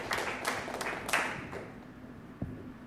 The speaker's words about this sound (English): Questions? Oh, clapping. Clapping first.